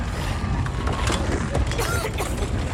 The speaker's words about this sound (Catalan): Dins del club, algunes bigues de fusta en flames cauen del sostre.